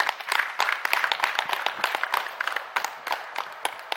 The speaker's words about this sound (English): Have a big clap for this.